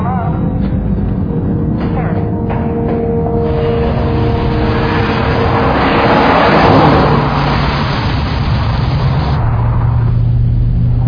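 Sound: car driving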